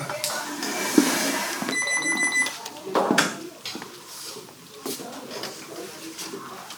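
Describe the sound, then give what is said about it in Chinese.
A brief, high electronic beeping from a man's wristwatch, worn on his body, sounds for under a second amid noisy clatter and faint background voices. “他的手表在叫。”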